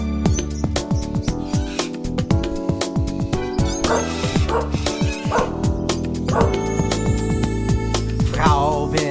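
A dog barks and yips repeatedly in quick, uneven bursts, loud, over a steady bed of bright music.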